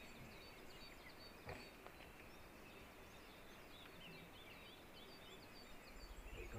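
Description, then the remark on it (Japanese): A coal tit, the most common bird at this conifer site, sings a fast run of thin, high chirping notes, quiet, repeating over a steady outdoor hiss with other faint birds calling around it. “こっちでまた速いテンポで鳴き始めたのが、このチチチチチチチ、これがヒガラっていうので、やっぱりここで一番多い鳥の。”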